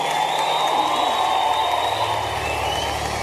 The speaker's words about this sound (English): Now give God a very serious clap and a hand. Celebrate it. Come on, somebody.